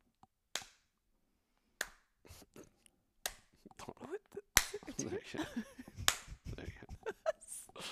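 Several sharp hand claps for syncing audio ring out, spaced irregularly at first and then bunching together, with voices chatting underneath as the later claps land.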